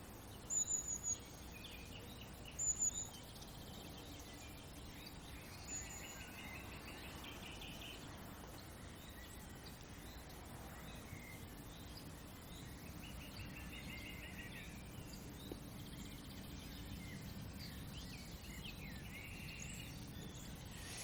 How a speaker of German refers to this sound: Es sind gerade 2 Nachtigallen, die singen. Ich weiß nicht, ob man es auf der Aufnahme hören kann.